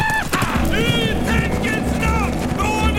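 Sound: horse galloping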